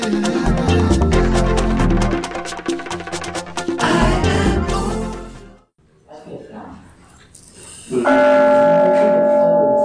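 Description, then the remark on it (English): Full, dense music fades into a brief hush, then a church bell strikes once, loud, rung to lead into silence at a Sunday service in Huntsville, Alabama, its tone ringing on with a long, shimmering sustain. “Sound of the bell take you into the silence, if you will.”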